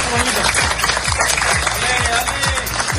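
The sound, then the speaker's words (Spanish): A group of mail carriers in Fuengirola, Málaga, Spain, applauds steadily after finishing their work delivering election votes, a dense patter of many hands clapping, with some indistinct voices and cheers mixed into the sustained applause. “Según datos de Correos, se han entregado el 100% de los votos solicitados para estas elecciones del 23 de julio y así aplaudían los carteros de Fuengirola en Málaga tras su trabajo.”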